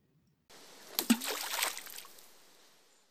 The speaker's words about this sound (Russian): Когда шар пролетал над морем, ёжик отпустил веревку и полетел вниз. Плюхнулся прямо в воду.